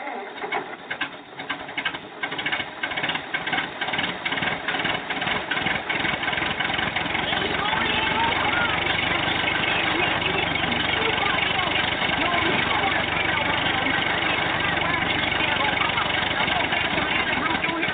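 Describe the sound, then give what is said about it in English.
A truck engine idles, rumbling steadily with a rapid chugging rhythm that is most distinct in the first few seconds, then settles into a dense, continuous drone. “Let me put the truck in gear now.”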